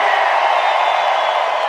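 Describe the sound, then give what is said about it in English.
A huge crowd in Brazil roars with sustained screaming and cheering on a count of three, a dense, loud wall of voices filling the whole stretch without a break. “On the count of three, Brazil, raise your hands and scream.”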